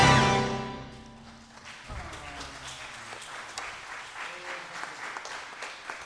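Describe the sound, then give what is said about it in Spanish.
Audience applause rises as a sung note fades out, then continues as a dense, steady patter of many hands clapping, with faint voices mixed in. “Renovamos el aplauso”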